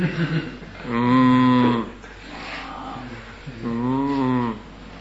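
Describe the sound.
A person imitates a cow, letting out two long, drawn-out moos separated by a short pause. The voice is fairly loud, with some faint breathy sounds before the first moo.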